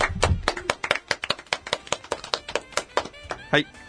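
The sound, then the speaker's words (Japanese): A short burst of hand clapping, a steady run of sharp, bright claps at a brisk rhythm, with some voice murmuring underneath. “なるほどね、はい、はい、拍手、はい。”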